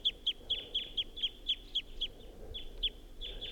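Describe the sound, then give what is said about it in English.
A wild bird up in a tall pine above a net gives its flight song: a steady run of sharp, high chirping notes, about three per second, with a brief pause midway and no voices. “That wild bird is up in the tall pine above the net and was giving flight song and song phrases.”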